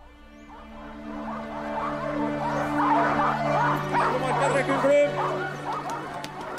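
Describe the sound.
A pack of sled dogs at a long dog sled race in a small frozen town in rural Norway in January, with sleds pulled by 12 dogs, barks and yips in an excited, overlapping chorus that builds and holds steady, with a low sustained drone underneath and a voice speaking over it.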